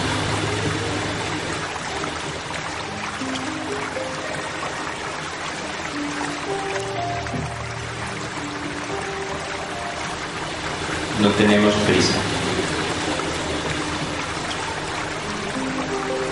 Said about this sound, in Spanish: Y deja que la respiración se acompase con el rumor del río.